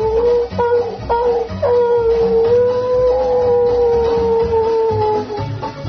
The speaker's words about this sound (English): And then, once in a while, you could hear out in that long, black, Stygian darkness of the American night. The sound of a timber wolf coming down from way up on the upper slope somewhere.